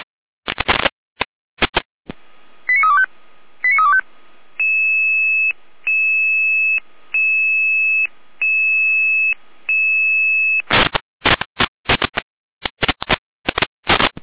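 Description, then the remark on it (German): Crackling radio static bursts give way to a quick run of electronic selective-call tones, then a steady pulsing two-pitch alert tone repeating about six times, before loud static bursts return: a control-centre radio alerting units for a call-out in Saalfeld. “Hier Name zur Alarmierung.”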